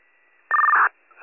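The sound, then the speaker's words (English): A radio dispatch paging tone: a single loud, steady electronic beep lasting under half a second, set against faint radio hiss, with another burst just starting at the end. The tones are dropped for a call at 931 North Boulevard in Alpha, for an 80-year-old male with post-surgical complications. “I was just about to drop tones for 931 North Boulevard in Alpha for the 80-year-old male post-surgical complications.”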